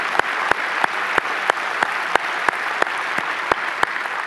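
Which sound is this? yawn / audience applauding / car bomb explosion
audience applauding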